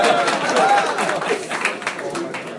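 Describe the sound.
A crowd at a yeshiva applauds steadily for a few seconds before a speaker's address at Pesach, a dense wash of clapping mixed with murmuring voices, fairly loud throughout and tapering only slightly at the end.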